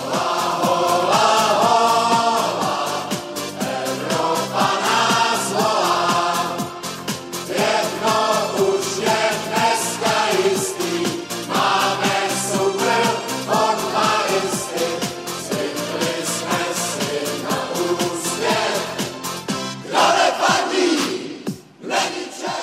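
A loud song plays at Prague's Letná football stadium after a match, with a big crowd chanting and singing along, a dense wall of voices and music that holds steady for over twenty seconds before briefly dipping near the end.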